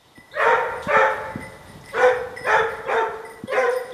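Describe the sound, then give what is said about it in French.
A hunting dog bays in a steady series of long, drawn-out howling cries, about six in four seconds, echoing outdoors on a hillside as it chases roe deer, with no one talking. “Le chien vient de lancer dans la côte.”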